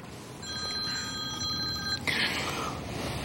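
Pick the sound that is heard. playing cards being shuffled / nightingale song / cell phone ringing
cell phone ringing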